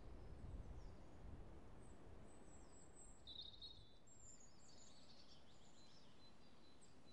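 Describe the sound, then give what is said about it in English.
Faint birds chirp and tweet in springtime in the trees overhead in a wood, short high calls scattered over a steady low outdoor rumble, with no one speaking. “Apart from the springtime audible glow of the birds tweeting and tittering in the trees above me.”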